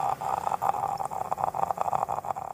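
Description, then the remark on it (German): A voice makes a low, continuous rattling growl during a vocal fold flutter exercise, a fluttery rough buzz that pulses rapidly and holds steady for a few seconds, moderately loud. “Was aber weniger verbreitet ist, ist das Flattern der Stimmbänder. Das sind so knurrende Geräusche”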